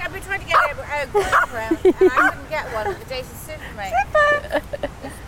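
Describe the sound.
A small Maltese dog named Zipper yips and barks in a series of short, high-pitched, loud bursts, with people talking around it.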